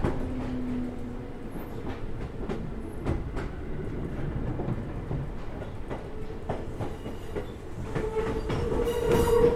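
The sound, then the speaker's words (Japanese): A commuter train bound for Umi-Shibaura station, approaching Asano station, rolls along the rails with a steady low rumble, broken by repeated sharp clacks from the wheels over track joints and a faint squeal near the end. “繰り返しになりますが、この電車は海芝浦駅です。”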